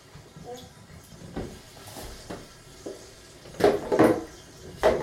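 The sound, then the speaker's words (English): Bathwater gurgles down a bathtub drain after a bath under a steady hiss, with a few soft knocks and louder burbling gulps near the end, with no one speaking. “Did you have a nice bath? Oh. Bye bye, water.”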